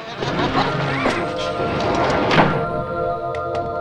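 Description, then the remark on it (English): A heavy wooden barn door is dragged shut, with a grinding slide and a couple of dull thunks, over a steady tonal hum in the background. “Rachel pulls the heavy barn door shut.”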